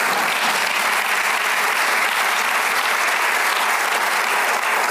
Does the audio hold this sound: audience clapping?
yes